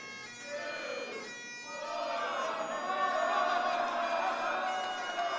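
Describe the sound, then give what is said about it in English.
A crowd cheers and shouts together, a dense, continuous wash of many voices that swells louder about a third of the way in and stays raucous to the end. “He looks round at the cheering and smiles slightly before taking a swig from a bottle.”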